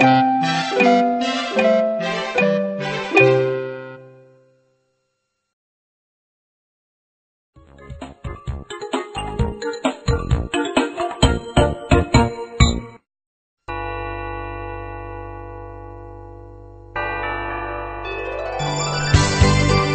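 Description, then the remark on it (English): A run of bright bell dings rings out in quick succession and fades, followed after a pause by busy jingling, clinking strikes and then sustained chiming tones with no voices. “Ding-a-dong, ding-a-dong, ding-dong. I can hear, the bell.”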